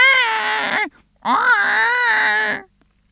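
A baby, wrapped in a white bundle and lying on a tiny sand island, cries in two loud, drawn-out wails separated by a short gasp-like pause, each cry high-pitched and strained with a wavering tone.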